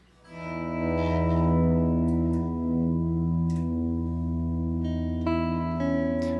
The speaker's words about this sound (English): Hear it? The tectonic chord's been strummed. White noise, clear cuts, tremolo, with slide alder, osier, luminous tamaracks trilling upwards.